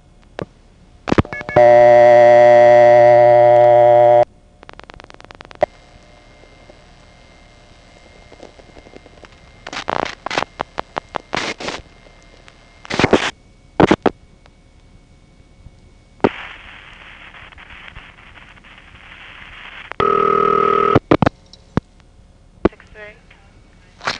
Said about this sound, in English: And once the sender realizes he's not dialing anything besides the zero, it will set up the route with only two reverted digits this time. Then there will be cut through, a flash, a pause, and then the TSP trunk will supervise ringing the operator.